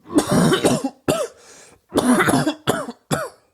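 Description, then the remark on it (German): A person coughs several times in quick, harsh bursts, with short pauses between the fits and a final couple of sharper coughs. “Wenn der Öffentlichkeit hustet, zieht schnell alle Blicke auf sich.”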